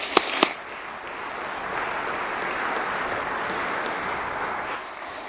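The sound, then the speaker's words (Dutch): A church audience at a Christmas service claps steadily for several seconds for everyone who helped with the service, a dense wash of many hands with two sharp louder claps at the start, then the applause tapers slightly near the end. “Even applaus voor iedereen die heeft meegeholpen.”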